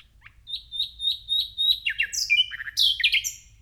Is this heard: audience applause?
no